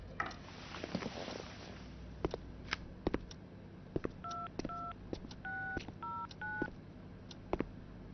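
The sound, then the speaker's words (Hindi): A telephone keypad being dialed to call the police: a quick series of clear, steady dual-tone beeps, each a short press, mixed with sharp clicks and taps over a low background hum. “बिल्कुल साफ तो है, चोर ने मेरा घर साफ कर दिया है, और तुम यहाँ बैठे रहने के बजाय जाओ और जाकर पुलिस को फोन करो, क्या कर देखें कि हम पर क्या मुसीबत गुजरी है।”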